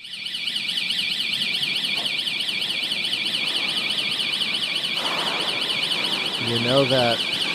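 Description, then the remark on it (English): A shrill, continuous alarm from an emergency exit door in a New York City subway station warbles rapidly up and down in pitch without pause, staying loud throughout; a brief voice-like sound cuts in near the end. “Some of your responses, and this comes up a lot, you know that emergency exit door in the subway stations?”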